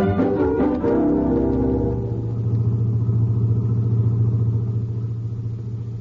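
A car engine rumbles steadily as the vehicle drives along on a clear night, a low continuous drone heard from inside the car, with a brief rise in engine tone at the start before settling into a smooth cruise.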